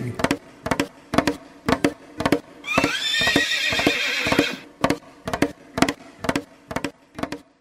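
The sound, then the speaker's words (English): A horse lets out a loud, shrill whinny that rises and wavers for about two seconds, framed by a steady, rhythmic clip-clop of hooves before and after. “Giddy up there, Chip. Hi, yo, silver away!”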